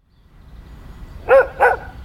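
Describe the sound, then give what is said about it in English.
A dog barks twice in quick succession, two short, loud barks over a faint low background rumble. “My dog is stronger than your dog.”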